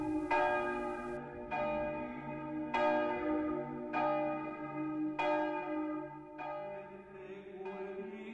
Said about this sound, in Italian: Quante volte sono venuto qui nelle ore prestabilite a suonare le campane.